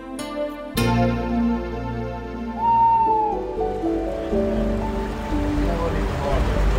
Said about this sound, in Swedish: De är väldigt pigga de här rackarna idag. Ja verkligen, det plaskar väldigt mycket här. Våren är aspens tid. Det är då de simmar upp i åar för att leka.